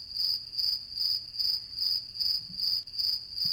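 Crickets chirp in a steady, rapid rhythm, a continuous high trill pulsing about every quarter second, even in loudness with no voices.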